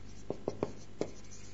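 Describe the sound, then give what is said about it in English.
A worn-out pen squeaks and taps across a board in four short, scratchy strokes, quiet, with no one talking over it. “These pens are disaster.”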